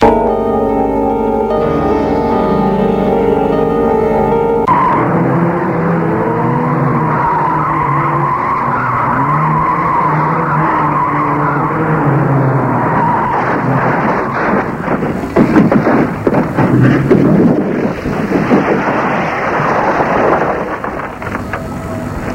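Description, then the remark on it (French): A car with failed brakes skids loudly with a sustained tire squeal and roaring engine as it misses a bend, followed by heavy crashing rumbles and debris noise, with no talking. “Revenant de son travail, Serge, le frère de Brigitte, a un accident de voiture. Sa voiture n'avait plus de frein.”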